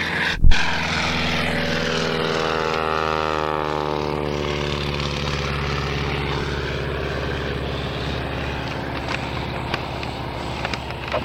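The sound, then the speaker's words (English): A propeller airplane, PP-17, takes off with a loud, steady droning roar, its layered engine tones sliding gradually lower in pitch as it passes, after a sharp click at the start. “Okay, PP-17 on takeoff.”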